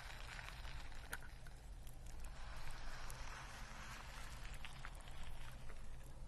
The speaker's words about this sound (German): Und hier kannst du das Wasser quasi so reingießen. Das läuft irgendwie, oh, das zischt fast so ein bisschen. Hört ihr das?